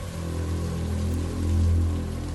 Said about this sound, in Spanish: Sonido de la lluvia y nada más.